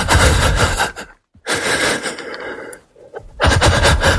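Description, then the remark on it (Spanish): Loud, ragged breathing: three long, heavy gasping breaths separated by brief pauses, sounding agitated and strained, as if someone is struggling for air, like the onset of an anxiety attack. No talking. “Porque la idea que tenemos todos es, efectivamente, que al principio pues tienes una respiración agitada que realmente parece que te ahogas, ¿no?”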